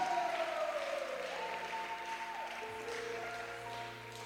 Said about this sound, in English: Oh, clap for Jesus.